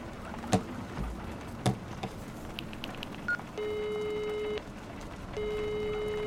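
A few clicks and short electronic beeps, like buttons being pressed, then a steady telephone ringing tone sounds twice with a pause between, clear and moderately loud over a faint background hiss, as someone phones their parents.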